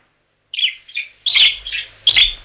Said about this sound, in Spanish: ¿Oyes los pajaritos como cantan después de la lluvia? Anda, asómate a la ventana. ¿Ves cómo se posan en los cables de la luz?